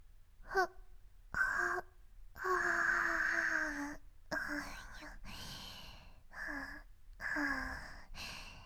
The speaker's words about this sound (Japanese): あくびが出ちゃいます。